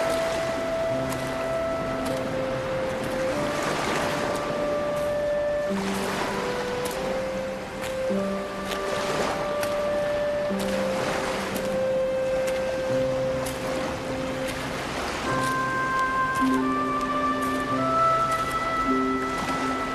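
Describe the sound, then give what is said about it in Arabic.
Sea waves wash in and recede in repeated broad swells every few seconds, a steady rushing surf heard beneath sustained, gentle musical tones, with no voices. “قلبي مثلك أيها البحر لا يهدأ.”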